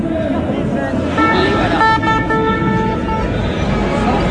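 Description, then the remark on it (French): Vehicles of the Marseille marine fire brigade (marins-pompiers) roll past a protest march in Marseille, France, blaring their horns in long, loud tonal blasts over a steady rumble of traffic and crowd noise, with several overlapping honks in a row. “On va laisser passer les marins-pompiers de Marseille qui font toujours beaucoup de bruit.”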